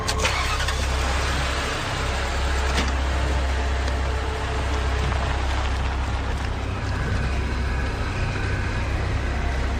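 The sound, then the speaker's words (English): A car engine cranks and catches, then settles into a steady, rumbling idle with strong low-end hum, continuous throughout. “Start the car.”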